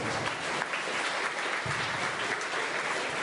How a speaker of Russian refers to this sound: На самом деле зарплату мы можем платить только благодаря вам, поэтому аплодируйте друг другу.